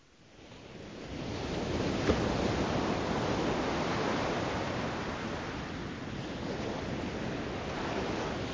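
Steady roar of Arctic Sea waves breaking on a shore, a broad rushing wash that swells in and holds, with wind noise mixed in and no voices.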